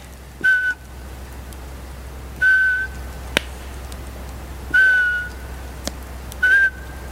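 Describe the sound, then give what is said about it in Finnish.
A person whistles an imitation of a Eurasian pygmy owl in a forest as it grows dark: four clear, steady whistled notes spaced about two seconds apart, with a couple of faint clicks and a low background hum. “Tämähän on ääni, mitä käytettiin äsken luonto. No niin, varpuspöllö.”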